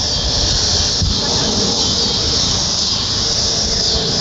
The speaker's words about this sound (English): I just want to have the cicada sound for a few seconds.